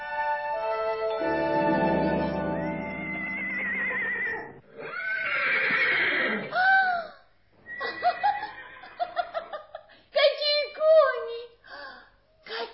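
Horses neigh loudly, several shrill, wavering whinnies in a row, broken up by short snorts and snickers, after a sustained ringing tone at the start.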